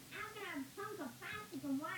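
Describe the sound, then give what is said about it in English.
A robot cat in a TV show meows several times in quick succession, four short wavering calls that rise and fall in pitch, clear against a quiet background. “She is jealous of the cat.”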